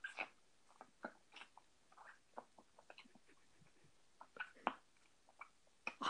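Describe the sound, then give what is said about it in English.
Wet chewing of a bunch of soft, sticky Starburst candies, with irregular smacking and squishing bursts repeating through the whole stretch, fairly quiet with no talking. “Can you hear me chewing, by the way? Because I'm eating a bunch of Starburst.”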